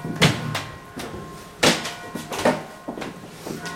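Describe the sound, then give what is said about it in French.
A door, stuck because the building has shifted so much, is shoved repeatedly, giving several dull thumps with a brief rattle after each push, spaced irregularly over a few seconds with no talking. “Ça a tellement bougé qu'on ne peut même plus ouvrir la porte.”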